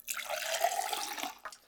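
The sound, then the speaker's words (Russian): Liquid pours into a glass in one steady splashing stream for about a second and a half, ending with a brief final splash. No one speaks. “Наливай.”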